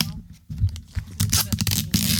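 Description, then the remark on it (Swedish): A small piece of adhesive tape is pulled off a roll, torn and applied, giving rasping, crackly bursts, with a voice murmuring underneath. “Men vi gör så här, jag ska ta och hämta en liten tejpbit här, för det går inte.”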